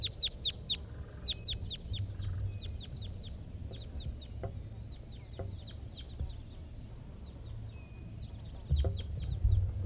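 A wild male red crossbill gives a series of sharp, high kip calls in quick clusters at 9 a.m., over a steady low rumble of background noise.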